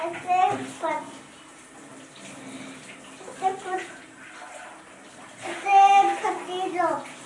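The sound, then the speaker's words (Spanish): A steady rush of pouring water runs continuously throughout as plants are watered, with a child's voice and another voice talking over it in short bursts. “Se riegan las plantas.”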